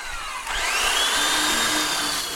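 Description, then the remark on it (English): A power sander grinds against an upended, not yet finished wooden Mackenzie River drift boat at Tatman Boats in Nimrod, kicking in after a half-second of quieter hiss and holding a loud, steady roar with a high whine that bends gently in pitch. “Most boat building is sanding.”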